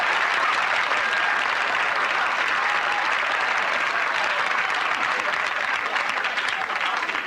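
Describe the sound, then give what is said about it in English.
Steady, dense applause rolls on without a break for several seconds, a loud continuous wash of clapping at an even level with no voices over it. “Mike applauds, but Archie just glowers.”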